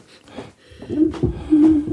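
A microphone boom arm creaks in a few drawn-out, squeaky groans, low and tonal, growing louder toward the end with no one talking over it.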